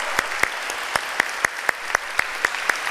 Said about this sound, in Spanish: Le damos un aplauso al Señor, ¿por qué no? Claro que sí, que se te pongan coloradas las manos.